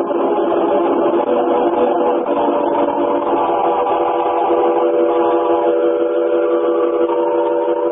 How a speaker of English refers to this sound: But hey, the train's pulling out, lad. You'd better be getting back aboard.